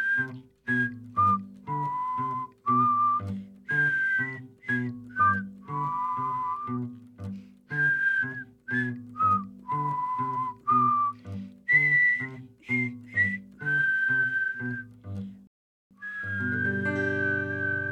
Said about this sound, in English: One evening, after a bad day at school, and all of his delicious carrots had been stolen, Calypso could take no more. He whistled.